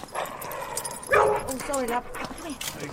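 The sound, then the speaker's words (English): An old woman's dog gives a sharp bark followed by a few high, whining whimpers, clear, with a person's voice talking quietly underneath, at night. “While they're distracted by it, George climbs over the back wall, just as an old woman's approaching with her dog.”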